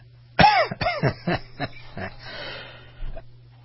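A quick series of harsh coughs, about five bursts close together, trailing into a quieter throaty rasp and a final faint cough.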